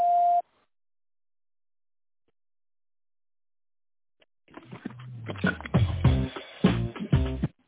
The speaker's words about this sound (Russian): Вы позвонили в компанию ProSoft Системы. Пожалуйста, после звукового сигнала в тоновом режиме наберите добавочный номер абонента или дождитесь ответа секретаря.